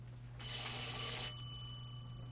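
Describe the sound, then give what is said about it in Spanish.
A single burst of telephone ringing, bright and metallic, lasting about a second before cutting off and leaving a steady low hum in the background. No one speaks. “Toma el teléfono y llama.”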